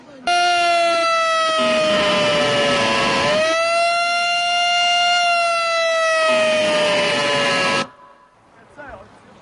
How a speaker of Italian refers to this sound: Vai, fai partire la sirena.